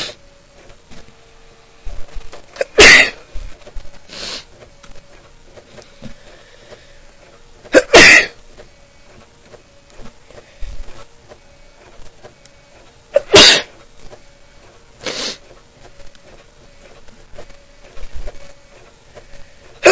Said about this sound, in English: and got a little sneeze fit coming on.